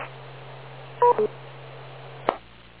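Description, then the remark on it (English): A radio repeater beep: two short, bright electronic tones in quick succession over a steady low hum, then a sharp burst of static as the carrier drops. No one speaks. “So WS2N, if he wants to pick up, everybody wait for the beep, K2RIW.”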